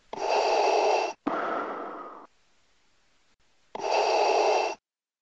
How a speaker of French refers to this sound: Non, parce que là, en fait, tu vois, je fais un test de jeu vidéo et si tu respires derrière moi, je vais pas vraiment entendre. Alors, si tu pouvais couper ta respiration 5-10 minutes, ça m'arrangerait, s'il te plaît.